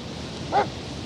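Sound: dogs barking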